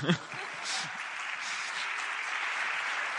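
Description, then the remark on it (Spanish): A crowd claps steadily, a dense, even wash of applause that holds at a constant level throughout, with a brief voice or cheer at the very start. “después de los aplausos, por favor.”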